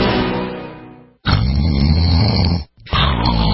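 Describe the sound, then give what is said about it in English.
Loud, rasping snores at night, three long rumbling breaths in a row, harsh, with brief pauses between them and no talking. “Is this what your bedroom sounds like at night?”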